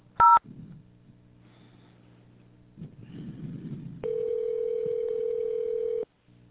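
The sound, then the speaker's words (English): A caller presses 0 on Herman Hiss & Company's phone menu: a single short, crisp telephone keypad tone for the zero key sounds near the start, followed by faint line noise and then a steady, sustained phone-line tone lasting about two seconds. “All other calls, please press 0, and someone will assist you shortly.”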